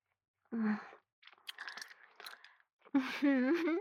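Close, wet gum chewing with soft clicking smacks in the middle, framed by a short hummed vocal sound before and a longer one after; no words are spoken.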